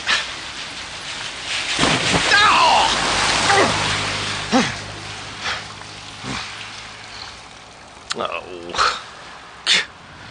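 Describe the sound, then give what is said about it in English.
Heavy rain hisses steadily on a wet surface, broken by several loud splashing whooshes as passing cars drench a man in surface water, with his startled vocal outbursts in between. “The rain leaves so much surface water that … is drenched in turn by several cars.”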